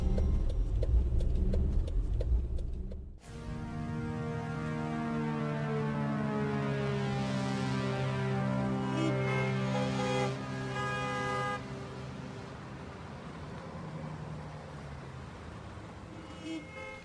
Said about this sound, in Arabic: حطيتونا عند أصوات هرنات من الصبح زحمة.